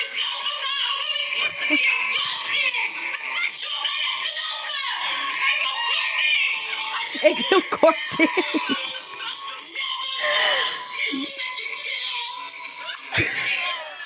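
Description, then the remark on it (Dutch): Harsh, raspy death-metal style screaming fills the whole stretch, loud, with a few brief spoken words and shorter shouted bursts breaking through the noisy vocal roar. “Jij maakte meteen death metal. Ja, hij zegt toch heel de tijd... je moet me niet schreeuwen. Dus jij ging schreeuwen.”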